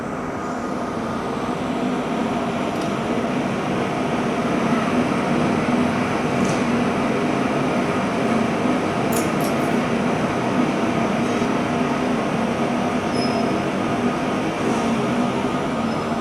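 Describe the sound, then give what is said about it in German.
Wind blows steadily through an empty town, a continuous low, rushing roar that holds an even loudness throughout, with a few faint high whistles flickering above it and no voices. “Niemand ist dort, nur Wind, hörst du.”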